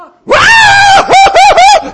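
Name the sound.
person imitating a scream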